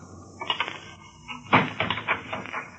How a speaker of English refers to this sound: It was long after midnight when my office door slowly opened.